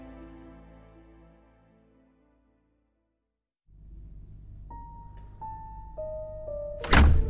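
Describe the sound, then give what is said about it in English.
A single loud, heavy thud of a door banging shut near the end, following a low rumbling background with a few faint electronic tones. “Was that the door?”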